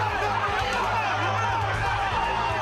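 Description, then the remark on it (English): A loud crowd of many voices at the Hard Rock Casino chanting the name Level together, a steady dense roar of overlapping shouts that holds at full strength for the whole few seconds. “Crowd here at the Hard Rock Casino starting to chant the name Level.”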